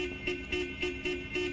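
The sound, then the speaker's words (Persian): A car horn honks in a quick, steady series of about five short beeps, fairly faint, with no one talking over it. “اوی، چه خبرته؟ مگه اینجا طبیلت نستشه بی بوق بزنی؟”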